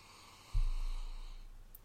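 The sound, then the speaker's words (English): A single drawn-out sniff of a golden amber malt whisky from a Bourbon cask in a glass, a soft breathy inhale rising sharply and then trailing off over about a second, heard alone. “Now, sniff.”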